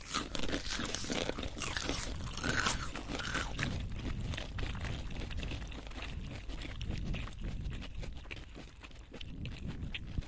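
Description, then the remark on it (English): Loud crunching as something crisp is chewed with the molars, with continuous irregular bursts of cracking and grinding for about ten seconds and no voices. “Perceived cumulative intensity of force required for repeated incremental failures of the product by chewing up to 5 times with molars.”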